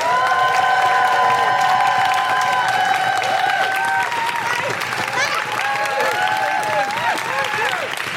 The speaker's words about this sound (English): Please clap your hands, stamp your feet, and make incredible Guilty Feminist woohooing, welcoming noises to the incredible Jordan Gray!